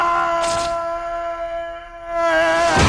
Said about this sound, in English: Here's a great falling yell. Here's someone yelling and falling. I can't remember who. It may have been Peter Parker. Oh, no. This is Thomas Hayden Church or whatever his name is.